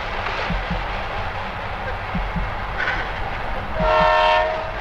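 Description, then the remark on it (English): A train close by on the tracks rumbles steadily with paired clacks of wheels over rail joints, then in the final second someone pulls its horn, a loud, sustained blast whose harmonic tone rises over the rolling noise. “Someone has probably spotted Turo on the tracks and is pulling the horn so he can save himself.”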